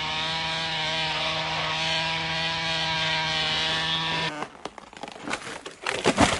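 A chainsaw cutting down trees runs at a steady, loud buzzing drone for about four seconds, then stops abruptly and gives way to irregular cracking and splintering bursts of wood.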